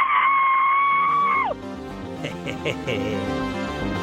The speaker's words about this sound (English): Will you scream as you hang up? Scream bloody murder?